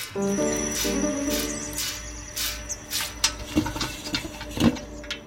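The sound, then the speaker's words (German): Footsteps of an old father coming down a staircase, armed with his keys: a series of uneven, muffled thumps and scuffs that grow more distinct toward the end, with a faint sustained tonal hum at the start and no talking. “Eugenie flüchtete vor Schreck, als sie die Schritte ihres Vaters auf der Treppe hörte.”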